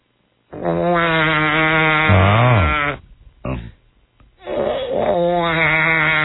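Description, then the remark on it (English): A voice imitates a baby crying at the back of a movie theater during a commercial: a loud, wavering, bleating wail that dips in pitch, a brief catch of breath, then a second drawn-out cry. “She says, there are two babies back there.”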